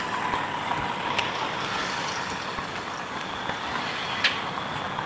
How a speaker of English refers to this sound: Look at all the traffic, my goodness.